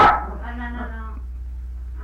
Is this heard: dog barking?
yes